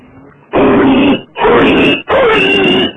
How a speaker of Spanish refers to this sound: Estoy aquí sacando a las perras, aquí por los descampados cercanos al matadero de Leganés, y me acabo de encontrar con un cerdo que, según nos está comentando tanto a mis perrillas como a mí, se acaba de escapar del matadero.